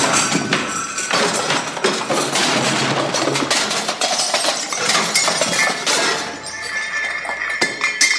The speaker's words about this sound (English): All right, y'all, we've had testicle difficulties. The damn bartender knocked the microphone over.